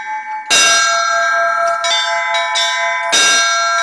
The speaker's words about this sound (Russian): Мастер-класс по колокольному звону в этот день пользовался особой популярностью. Получить несколько уроков от профессионала стремились и дети, и взрослые.